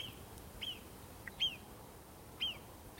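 Three short, high-pitched whistling alarm cries from a single animal warning of danger, spaced roughly a second apart, each a quick sharp chirp over a low, steady background rumble with no talking.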